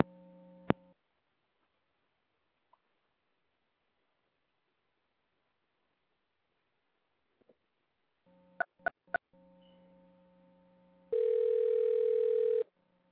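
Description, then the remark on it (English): A steady telephone dial tone hums briefly as a call is placed on a cell phone, then after a quiet stretch returns with three sharp clicks before a louder, higher steady phone tone sounds for about a second and a half. No one speaks. “I'm about to call him on three because his phone messing up.”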